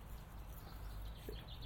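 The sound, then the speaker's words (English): A few faint, high chirps from a small bird come through near the end, nearly buried under steady low wind rumble and hiss, on an unusually cool morning. No one speaks. “Oh, isn't that a dicky bird?”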